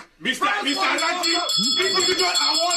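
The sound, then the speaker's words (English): A bell rings with bright, sustained high tones that linger over a busy background of voices, steady throughout the short stretch. “Somebody said, let's what check was the bell for.”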